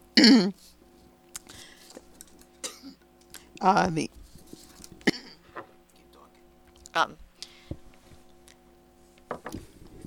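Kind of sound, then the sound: human body sound, coughing and throat clearing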